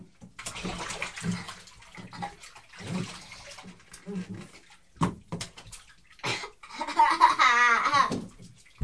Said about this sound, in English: Right, we put more hot water in it. Would you like some more?